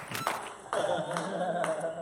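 A crowd applauds steadily for a couple of seconds, a dense wash of clapping with a few cheers and voices mixed in, at a fairly constant level, as a comedian is introduced at a stand-up comedy show.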